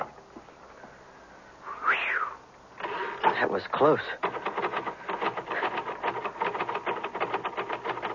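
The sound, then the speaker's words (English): Stiff keys clack and rattle as they are worked loose, building into a fast, steady mechanical clatter after a brief rising twang, with a voice speaking briefly over the noise. “Well, sounds like you finally got your keys unstuck.”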